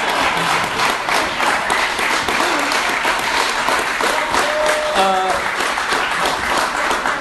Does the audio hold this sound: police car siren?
no